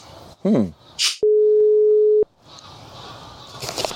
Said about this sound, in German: Es klingelt.